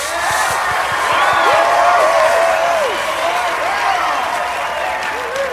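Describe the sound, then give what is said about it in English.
A large school-assembly crowd claps steadily and loudly while voices whoop and cheer over it, cheering on the Toronto Ice Hounds hockey team; the rising and falling shouts are layered on dense, continuous applause throughout. “Now, normally we're celebrating Panther Pride, but today we're cheering on the Toronto Ice Hounds.”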